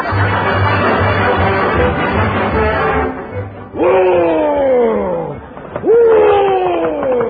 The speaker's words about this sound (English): It's midwinter in Montana. The blizzard is raging. Boy, it's a beaut. Montana, that is.